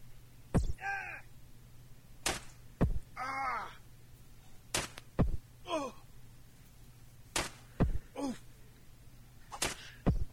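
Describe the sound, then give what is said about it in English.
Harsh, strained shouts from a video game guard recur in short bursts, each cry sliding in pitch, interspersed with sharp percussive hits, over a low steady hum, with no one talking. “I got a sound sample here of the guard one.”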